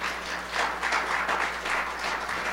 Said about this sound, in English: If you can get happy, clap your hands.